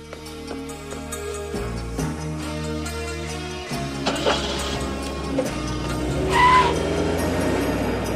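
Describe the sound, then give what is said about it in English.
At night, a parked car's engine hums and revs up as the car pulls out of a driveway and sets off along the road, its pitch stepping with gear changes, and a short tire squeal rises near the end. “He sets off along the road.”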